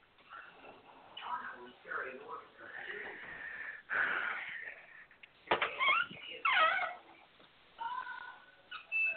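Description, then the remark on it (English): A television plays loudly in the background, a steady muffled mix of indistinct voices and tonal sounds that rise and fall in bursts, with no clear speech up front. “Somebody need to turn their TV down, please.”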